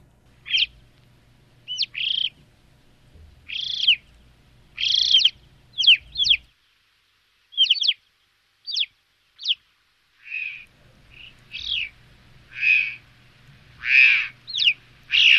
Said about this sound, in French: Alors là, on n'est pas très loin du corbeau, on dirait. On est dans les corvidés, un petit corvidé qui a un bec jaune et des pattes roses. C'est le chocard à bec jaune. On dit bien chocard et pas chouka, qui est un autre corvidé.